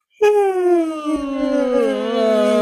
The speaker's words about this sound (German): Gähnen kann auch wieder, kann organisch entstehen.